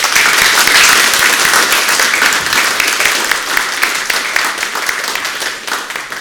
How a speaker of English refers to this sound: Appreciation for what God has done with a round of applause.